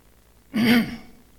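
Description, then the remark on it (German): A single short throat clearing, fairly loud, with a brief voiced rasp that fades within half a second against a quiet background. “Bitte entschuldigt, wenn ich zwischendurch ab und zu mal huste.”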